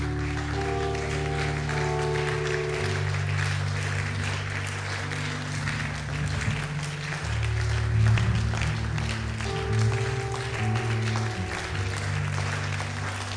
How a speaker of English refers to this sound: Let's clap to God's glory. Let's give God.